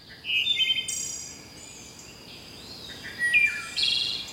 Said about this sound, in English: And some more elusive birds to watch for, like this wood thrush.